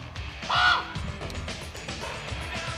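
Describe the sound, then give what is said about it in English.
A large bird gives one loud, harsh caw close by, standing out briefly over a steady low rumble of background noise. “Big fucking bird over there.”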